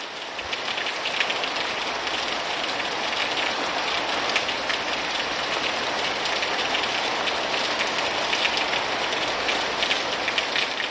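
Heavy rain pours down steadily, a dense, constant hiss of drops drumming on surfaces with no pauses, loud throughout, with no voices.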